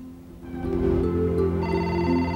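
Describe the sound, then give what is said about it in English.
A telephone rings with a steady electronic tone, its pitch stepping up partway through, moderately loud, with no one speaking, in a room overlooking San Francisco, until a man picks it up. “In a chic room overlooking the cityscape of San Francisco, a portly man puts down a glass of red wine as he picks up the phone.”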